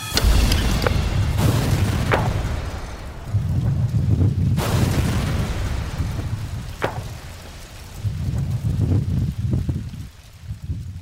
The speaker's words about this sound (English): Look at the blast pressures, Tony. Yeah. Look at that. This is all pieces from this last blast.